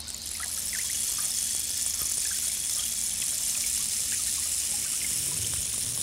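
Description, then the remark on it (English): A steady, rushing wide stream of water moving rapidly over rocks in a forest clearing, a continuous bright hiss with small splashes and gurgles throughout, even in loudness, with no voices. “And in the clearing is a rapidly moving stream of water, a wide stream, with water flowing over rock.”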